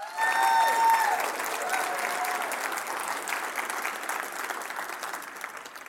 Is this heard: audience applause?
yes